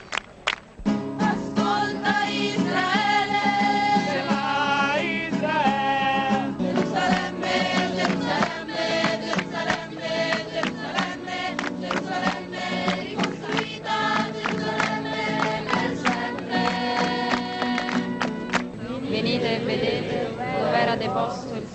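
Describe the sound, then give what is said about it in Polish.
A large crowd of young people keeping vigil in St. Peter's Square in the Vatican sings together in a loud, sustained chorus, the melody holding steady throughout before dissolving into a rougher, noisier crowd roar in the final seconds. “Tak czuwają młodzi na placu Świętego Piotra w Watykanie.”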